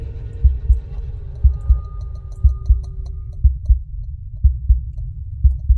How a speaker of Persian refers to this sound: واقعا ترسیده بودم، ضربان قلبم رفته بود بالا تو اون ظلمات و سکوت کر کننده صداهای عجیب میشنیدم.